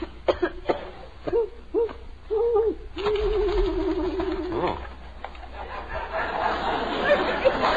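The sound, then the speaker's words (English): An owl hoots several short, low calls in a row, then one long, wavering hoot, clear over a hissy, rustling background. “It's an owl, Margaret. That's all it is, just an owl.”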